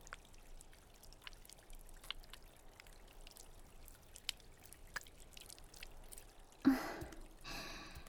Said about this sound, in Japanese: さて、泡をきれいに流し落として、どこか気持ちの悪いところはある？